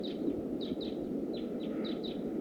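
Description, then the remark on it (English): Decoy birds call in a quick series of short, high chirps, roughly seven in two and a half seconds, each with a slight downward sweep, over a steady low rumbling background noise. “The decoys are calling loud.”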